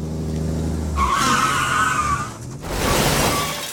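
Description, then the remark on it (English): A car engine rumbles, then tires let out a loud, sustained screech for over a second, followed by a rough, noisy crunch and scrape as a massive truck rams a car and spins it to the left. “He's hit my car. His massive truck spins my car to the left.”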